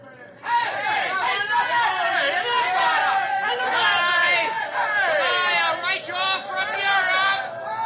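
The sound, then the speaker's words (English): A dense, growing crowd chatters loudly around an aircraft about to take off, many overlapping voices forming a steady babble that begins abruptly after a brief quiet moment and continues without pause. “This crowd is getting bigger.”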